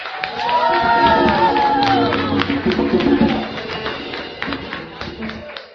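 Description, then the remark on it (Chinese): An audience claps steadily and loudly for themselves, with voices calling out and cheering among the dense patter, before the applause thins and fades. “是不是再给自己再一个热烈的掌声？”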